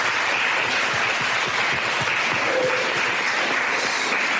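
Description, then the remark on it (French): Sustained audience applause at the close of the second session of a talk fills the whole stretch, a dense, even wash of many hands clapping at steady loudness with no voices on top. “Mais on va s'applaudir pour cette deuxième session.”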